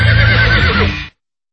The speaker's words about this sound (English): Here's a horse.